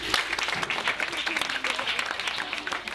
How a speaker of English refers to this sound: Clap for him.